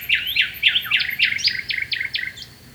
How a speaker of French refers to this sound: L'oiseau put alors chanter des jours et des jours sans être interrompu.